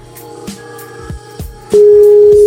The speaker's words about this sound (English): Now it's ringing. It takes long to get overseas. It takes long because it has to get there. Such a nice ring. Old ring.